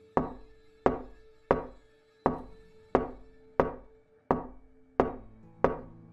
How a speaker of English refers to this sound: After a few seconds of pause, another knock came. It then began a rhythm. It wasn't your typical someone knocking at the door wanting to see you. It was a slow, continuous one, almost like a heartbeat.